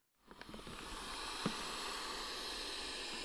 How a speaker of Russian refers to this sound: Подул ветер.